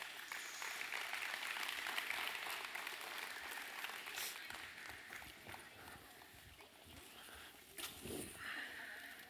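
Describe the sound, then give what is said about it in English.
An audience claps steadily for about nine seconds, a dense, even wash of applause that swells briefly near the end, with faint voices mixed in beneath it. “So would y'all come give a big round of applause today?”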